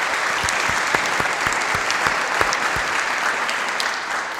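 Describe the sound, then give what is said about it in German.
An audience at a church service applauds a musician's playing steadily, a dense patter of many hands clapping at an even loudness for several seconds, easing slightly toward the end, with no voices over it. “Also von daher herzlichen Dank auch an Frau Bibiella. Applaus.”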